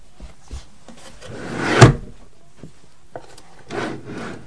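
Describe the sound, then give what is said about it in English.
A wooden drawer slides open with a scraping rub that ends in a soft knock, then after a short pause slides shut again. No one speaks. “Could you put it in that drawer for me, please?”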